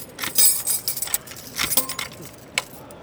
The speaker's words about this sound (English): Not only do you hear them keying each door like click-clack, click-clack, click-clack. As they walk between doors, you hear the keys jingle.